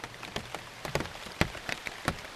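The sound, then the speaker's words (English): Big raindrops falling from high in the rainforest canopy strike the leaves of plants growing under a ceibo tree in the Ecuadorian Amazon in an irregular patter, each drop a distinct sharp tap over a soft, steady hiss of background rain. No voices. “So here we're hearing the big raindrops falling from high in the canopy.”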